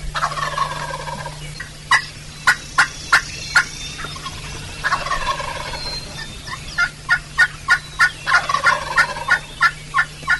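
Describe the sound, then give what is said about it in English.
A wild turkey gobbles repeatedly in the morning with rain coming in, each rattling call bursting out amid a series of sharp, evenly spaced clucks or yelps, heard outdoors over a steady low background hum. “He's gobbling good this morning, even with the rain coming in.”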